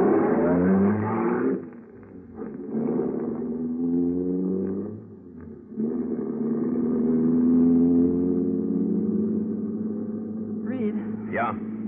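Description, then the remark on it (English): A car engine roars loud as the car leaves Grove's Landing, revving with a brief lull before surging again, its pitch climbing as it accelerates toward the end. “You close the safe and rush back to the car.”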